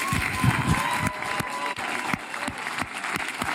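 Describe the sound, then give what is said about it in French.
A crowd claps steadily, the dense patter of many hands filling the space evenly at moderate volume, with a faint murmur of voices mixed underneath. “Moi je le sens, les salles et tout, vous pouvez pas applaudir parce que vous êtes en train de filmer.”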